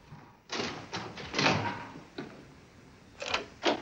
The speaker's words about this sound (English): Roby goes back up to his bedroom and closes the door behind him.